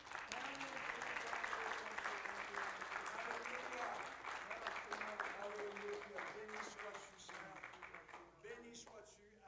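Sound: audience applauding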